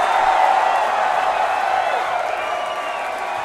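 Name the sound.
crowd cheering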